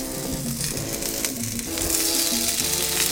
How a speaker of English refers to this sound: That cast iron skillet is exactly where you want to be. So I'm gonna. Oh yeah, you hear that sizzle?